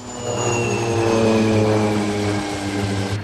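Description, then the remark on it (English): A propeller airplane engine with engine trouble drones steadily and loudly as the plane banks sharply to the right, with a strong low hum and whining tones that slowly shift in pitch, no voices present. “The plane banks sharply to the right.”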